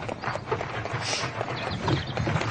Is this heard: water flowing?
no